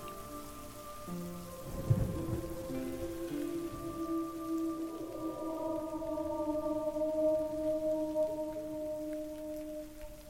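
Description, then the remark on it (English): Steady rain hisses throughout, with a low rumble of thunder swelling near the start, while sustained tonal drones hum underneath. No one speaks. “But it is probably best if you find yourself in Suffolk, England, and it begins to rain, and it begins to thunder, and it begins to storm, think twice before seeking shelter anywhere with a sign that reads, "Beware of dog."”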